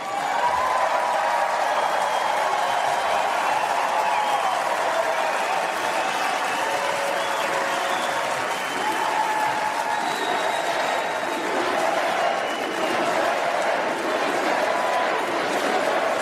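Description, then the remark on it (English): A large crowd at the Republican convention cheers and applauds loudly and steadily for Nikki Haley's speech, a dense unbroken roar of clapping and shouts with occasional whistles rising above it. “Crowd going wild for Nikki Haley there.”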